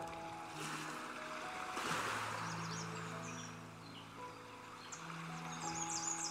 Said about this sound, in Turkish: denizi gözlemle bir süre. Dalgalarını durmaksızın kıyıya gönderiyor. Her ne olursa olsun, dalgalarını sürekli kıyıya gönderiyor.